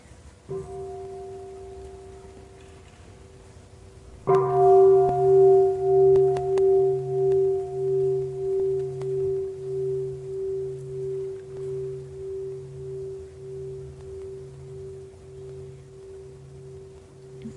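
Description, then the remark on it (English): A large bell is struck once, loud, then hums on for many seconds with a slow, pulsing wobble as the deep tone gradually fades. A faint lingering tone precedes the strike; no voices. “Listen to the bell and enjoy breathing.”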